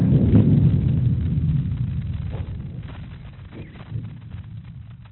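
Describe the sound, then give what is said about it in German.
A deep, droning low rumble swells and throbs steadily, loudest at the start and slowly fading over several seconds, like a vast resonating body humming with faint pulsing beats: the free oscillations of the whole Earth, set ringing by the Bolivia earthquake. “Das ist das Bolivienbeben, wo Sie die Eigenschwingungen der gesamten Erde hören.”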